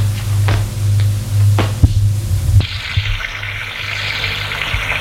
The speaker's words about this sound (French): La bonne se met à l'évier pour laver la vaisselle.